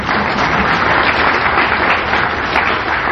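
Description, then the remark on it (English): A crowd applauds steadily, a dense, even wash of many hands clapping at a fairly loud level without pause for a few seconds, with no voices standing out, as directors of MSRI sponsoring mathematics institutes are welcomed. “Now you have to clap for everybody.”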